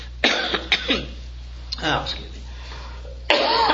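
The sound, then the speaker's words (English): A person coughs and clears their throat several times in short, rough bursts. A longer raspy clearing sound follows in the middle, and a harsh cough comes at the end. “He planted the idea of coughing in that last song in my head.”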